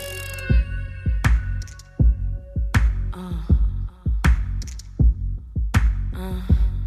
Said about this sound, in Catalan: I ara entrem en la secció de format lliure, escoltant un tema de …, ….